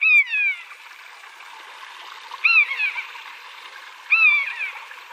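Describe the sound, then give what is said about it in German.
A common buzzard gives three plaintive, mewing descending calls at roughly two-second intervals, clear, over a steady background rush of flowing water. “Man könnte jetzt auch sagen, es ist der Eichelhäher, aber es ist wahrscheinlich das Original, oder? Es ist das Original der Mäusebussard.”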